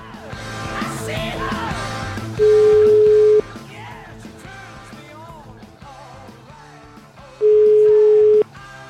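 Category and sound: signal or alarm, telephone call dialing tone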